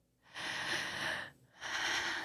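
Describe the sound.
A person makes an exaggerated, heavy gasp imitating a shocked boss: two long, loud, breathy rushes of air, a drawn-out intake followed by another after a brief pause.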